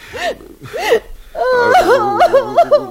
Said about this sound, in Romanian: Lasă, psihimă, nu mai plânge și vină în brațele mele.